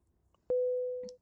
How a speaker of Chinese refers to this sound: 等一下，糟糕，我老公来电话了。